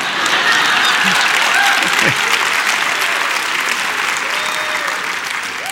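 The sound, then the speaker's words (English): Loud, sustained applause from a large crowd, a dense wash of many hands clapping steadily for several seconds before easing slightly toward the end. “Thank you for that thunderous applause.”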